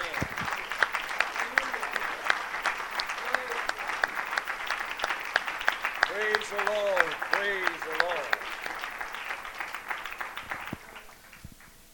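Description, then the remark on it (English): A crowd applauds the Lord, clapping steadily for several seconds, dense and fairly loud, with a few voices calling out briefly over the applause before it thins and fades near the end. “Yes, give the Lord applause.”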